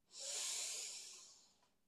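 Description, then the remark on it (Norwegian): A single long, deep breath drawn in through the nose, a steady airy hiss that swells quickly, holds for over a second, then fades out. No talking. “Pust godt inn med nesa.”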